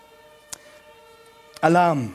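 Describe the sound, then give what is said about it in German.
A steady, multi-toned alarm siren hums throughout, broken by two sharp clicks, before a man's voice begins speaking loudly over it near the end. “Alarm. Gibt es überall in dieser Welt.”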